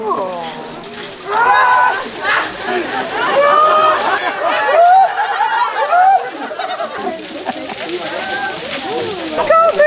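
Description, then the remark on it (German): Fresh spring water gushes and splashes from an opening in the middle of a table at a trick fountain water display, a steady rushing spray beneath lively crowd chatter, exclamations and bursts of laughter. “Und hier fließt immer frisches Quellwasser.”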